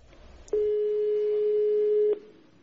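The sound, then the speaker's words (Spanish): A single steady telephone ringing tone, before a call is answered, sounds for about a second and a half, clear and fairly loud, over faint line hiss, with no one speaking. “Entonces, para burlarse, a veces basta con una sola llamada de teléfono.”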